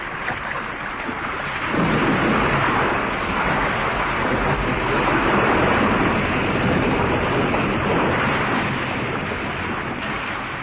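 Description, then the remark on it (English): A steady, loud rush of churning water with a deep low rumble underneath as a plane, nearly full of water, sinks into the sea amid heavy waves in darkness, swelling slightly after the first couple of seconds and continuing unbroken without any voices. “Well, there goes our plane.”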